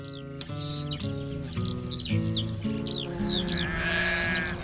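Goats grazing at the foot of Mount Etna in southern Italy, each wearing a small fingernail-sized transmitter on its neck, bleat repeatedly in a steady, wavering chorus outdoors while birds chirp and tweet brightly overhead, the bird calls layered on top throughout.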